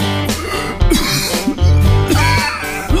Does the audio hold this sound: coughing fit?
yes